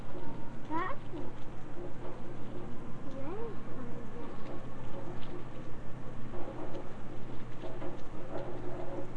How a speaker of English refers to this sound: Hear the rain coming down? See it? Hear the rain come down the gutter?